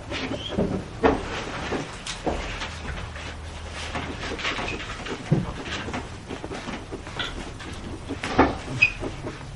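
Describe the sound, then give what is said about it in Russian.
A cupboard behind a person's chair being handled, with several wooden knocks and clatters scattered over a steady low rumble; no one speaks. “за вашим стулом. Шкаф.”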